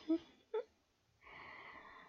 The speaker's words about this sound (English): Oh, you're breathing really hard, master. You okay?